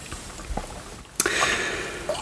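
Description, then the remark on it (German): Wine glugs steadily into a glass, starting after a short quiet pause with a soft clink, a splashy pour lasting about a second with no talking. “Nee, ich muss mir nochmal einschenken.”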